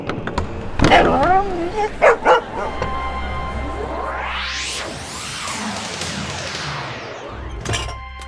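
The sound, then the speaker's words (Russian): A dog named Altaika whines and yips at the entrance in a few short, high-pitched bursts near the start and again at the end, over a steady background hum. “Пойдемте, а то Алтайка уже скулит у входа.”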